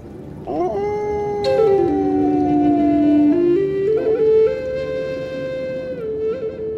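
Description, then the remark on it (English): A chorus of sled dogs howling together, several long, wavering voices overlapping and sliding up and down in pitch, loud, with no talking. “The first Inuit to come to Labrador brought with them sled dogs, dogs that allowed them to hunt, haul heavy loads, and travel vast distances along the Labrador coast and interior.”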